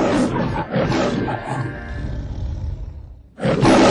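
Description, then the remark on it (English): The MGM film studio's lion roars loudly, a rough, throaty bellow that rumbles and fades, then a second powerful roar bursts out at the end. No one speaks. “That flashing beacon was once just as familiar to moviegoers as MGM's roaring lion.”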